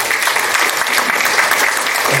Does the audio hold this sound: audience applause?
yes